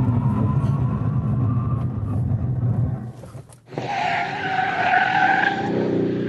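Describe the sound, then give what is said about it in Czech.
A loud engine roar gives way to a sharp dip, then a harsh, sustained tire squeal as a powerful car brakes hard and skids during a braking test at the airfield in Mnichovo Hradiště, Czech Republic, intense with no talking. “První, co musím o svý nabušený káře znát, ne jak letí dopředu, ale jak brzdí.”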